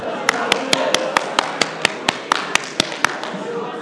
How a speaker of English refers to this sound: Hooray! Let me give them a clap.